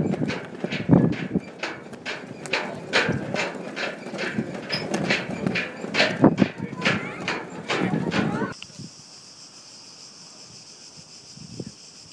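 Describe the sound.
Small birds chirping in a steady, high-pitched chorus at the Acropolis, which is full of them, filling the last few seconds after a stretch of sharp clattering steps on slippery, irregular stones and people talking.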